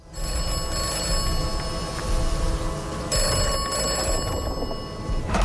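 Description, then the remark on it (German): A telephone bell rings continuously in bursts from a famous English telephone box in a video game, loud, with a bright metallic ringing tone over a steady background hum; no one speaks. “Die immer anruft, wenn du an so einer berühmten englischen Telefonzelle vorbeigehst.”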